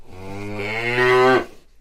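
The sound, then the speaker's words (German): A single long, loud cow moo, swelling in volume toward the end before cutting off abruptly, with no talking. “Kuh ist nicht Taube, insofern geht das Spiel jetzt wieder rüber zu den Kindern.”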